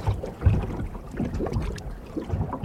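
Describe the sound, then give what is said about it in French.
Low, gentle water sounds with soft sloshing and light wind rumble, a calm sailboat barely moving in little wind on quiet water, with no voices. “Ah, là, il n'y a pas beaucoup de vent. Hein. Là, ça avance pas.”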